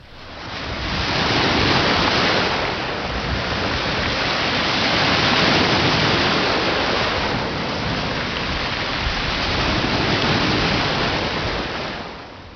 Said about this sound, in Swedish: Det är väl ungefär så här man föreställer sig att det ska låta när vågorna slår mot Kullabergs karga strandklippor.